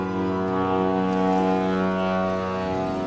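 A ship's foghorn sounds one long, steady blast, a loud, deep droning tone with rich harmonics that holds for about three seconds with no voices.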